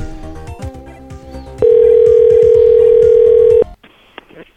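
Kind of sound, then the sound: signal or alarm, telephone call ringing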